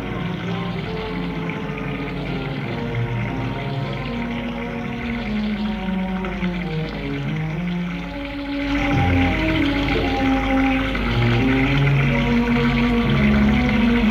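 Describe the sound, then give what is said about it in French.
A man's shower runs steadily and fairly loud throughout, a continuous hiss of water overlaid by wavering, drawn-out tonal hums that get slightly fuller partway through. “Lorsqu'il prend sa douche, elle est dans le couloir.”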